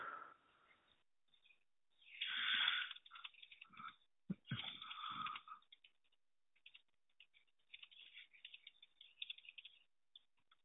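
Quick, irregular clicks of fingers typing on a computer keyboard as someone types up what another person has said, with a couple of louder rustling bursts early on before the keystrokes settle into a light, uneven patter. No one speaks.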